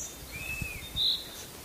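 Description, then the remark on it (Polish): A chaffinch sings faintly, a couple of thin, high whistled notes drifting over a quiet outdoor background with no one talking. “Zięba na razie zagłusza, ale pojedyncze gwizdy są takie, tak?”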